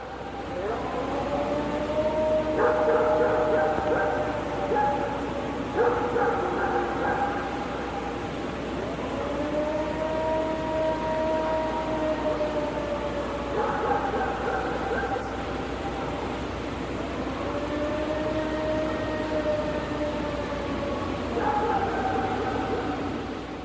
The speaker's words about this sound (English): If I'm not mistaken, I believe that's the famous Ohio Howls. It is. Recorded by Matt Moneymaker in 1994.